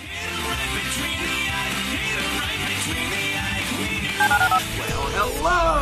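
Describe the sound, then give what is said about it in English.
Telephone dialing tones for calling the HRNP listener line: a quick run of four short touch-tone beeps near the end, followed by a few more, heard over a dense, steady musical bed. “Dial the phone.”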